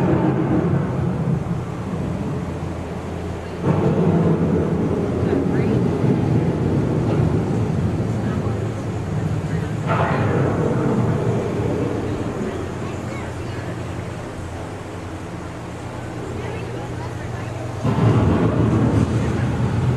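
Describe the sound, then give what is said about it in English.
A deep, rolling rumble of thunder from an approaching storm, building in heavy swells every few seconds over a constant low roar of wind. “The approaching storm may seem violent and destructive to us, but to nature, it's a new beginning in the cycle of life.”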